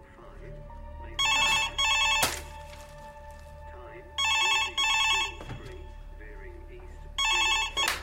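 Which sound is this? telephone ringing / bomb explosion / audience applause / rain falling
telephone ringing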